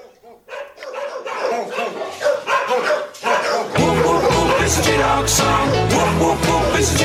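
A dog barks in short, repeated yelps at the start, then a full band comes in loudly at about four seconds and the barking continues under the music.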